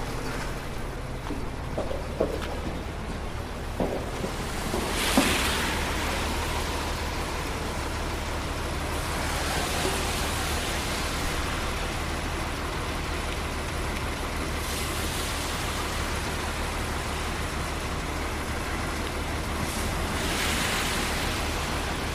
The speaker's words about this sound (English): So what's happening now, the plow truck has actually stopped right in front of me, and there's a couple of guys trying to clear the area where the pedestrians cross for the traffic.